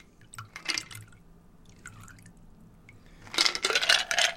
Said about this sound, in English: Ah, the happy clatter of ice. Is there anything better than that?